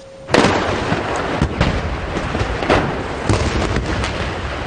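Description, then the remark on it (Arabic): Heavy artillery shelling by Syrian army units on militant gathering points in the city of Qusayr, Homs province, Syria, from the early morning: a sudden loud boom followed by a sustained low rumble, with several more thuds and blasts at irregular intervals, no voices present. “وتقوم وحدات الجيش منذ الساعة الأولى للصباح بقصف عنيف لنقاط تجمع المسلحين.”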